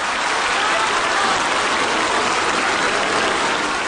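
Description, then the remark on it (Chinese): Warm, sustained applause from researchers, teachers and students fills a library hall in Macau as they greet President Xi Jinping, a dense and steady patter of many hands clapping at an even, fairly loud level throughout. “图书馆大厅里掌声热烈，科研人员、在校师生高声向习近平主席问好。”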